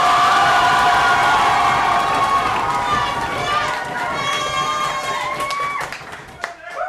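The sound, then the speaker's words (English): A loud, dense roar from a large audience stamping their feet, clapping, cheering and whistling as Josh Charlton is introduced, blending into a continuous wash of noise for several seconds before easing slightly at the end. “Ladies and gentlemen, start stamping your feet. Start clapping your hands.”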